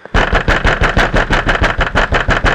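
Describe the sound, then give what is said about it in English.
A car engine runs loud as the car speeds down a road at night past another car, its rumble throbbing in a fast, steady rhythm with no pause and no voices. “He beats on the steering wheel and yells out the window as he speeds past the only other car on the road at that hour.”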